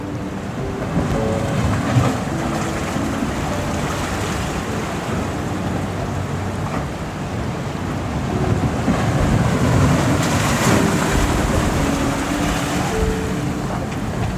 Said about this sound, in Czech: Race klétá, vítr vane.